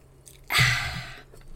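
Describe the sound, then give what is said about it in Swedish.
A single wet sip of wine lasting just under a second, with a soft slurp and swallow, with no talking. “En klunk vin först bara.”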